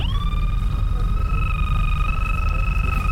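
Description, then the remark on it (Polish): A steady electronic tone from a metal detector used to search for objects buried 30–40 cm in the ground, such as TM-62M mines or shells, with a strong pitch and a higher harmonic, holding almost unchanged for about three seconds over a low rumbling background. “Osoba z wykrywaczem szuka przedmiotów, które są zakopane w ziemi.”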